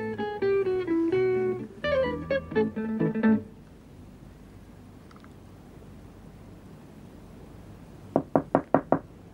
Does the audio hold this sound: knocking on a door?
yes